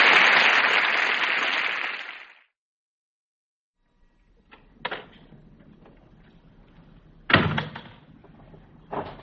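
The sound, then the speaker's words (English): A door slams shut with a sharp, loud bang, preceded by a softer knock and followed by another thud, after an opening rush of broad noise and a brief silence. “You ain't going to slam this door in my face, because this time it's going to be your face, and I'm going to be the slammer.”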